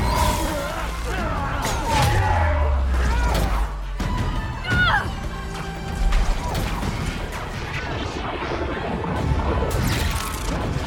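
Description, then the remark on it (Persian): A loud, chaotic battle in which sorcerers fight with their powers and elves with swords and bows: sword-like clashes, crashing impacts and whooshing swishes over deep booming rumbles, continuing without a break for the whole stretch. “جادوگرا با نیروهاشون و الفا با شمشیر و کمان با هم مبارزه میکنن.”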